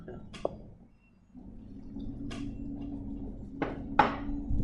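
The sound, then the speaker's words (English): Strong wind howls in a steady low roar that swells after a brief lull, with a faint droning tone and a few sharp clicks and knocks scattered through it. “My side here, you can hear the wind howling.”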